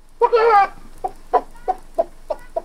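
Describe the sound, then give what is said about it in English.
A human voice imitates a chicken: one drawn-out squawk followed by a steady series of six short, clipped clucks, fairly loud, with no other sounds. “The dumb stableman role was the robber with a fox-like grin's father, who had an excellent chicken imitation, because it turned out that he was the one laying the golden egg.”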